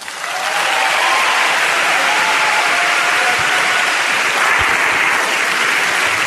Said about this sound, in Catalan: Sí, aplaudiu.